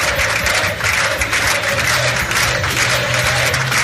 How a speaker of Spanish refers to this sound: Era la de la ovación cerrada con la que han recibido en la calle Génova a Juanma Moreno Bonilla, flamante ganador de las elecciones andaluzas.